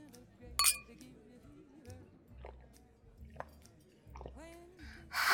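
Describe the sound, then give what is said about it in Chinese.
Glasses clink together once in a bright ring in a drinking toast near the start, followed by quiet chewing and mouth sounds with a faint voice, then a louder hiss at the very end. “干杯喽，弟弟。”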